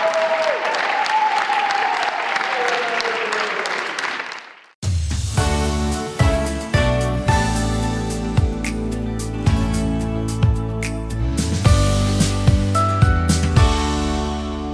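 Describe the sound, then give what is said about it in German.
An audience applauds after the last performance of the season at the Bremerhaven Stadttheater, a dense wash of clapping that fades away after about five seconds, then music with plucked notes and percussion starts abruptly. “Erst vom Publikum und dann im oberen Foyer des Bremerhavener Stadttheaters von ihren Kolleginnen und Kollegen.”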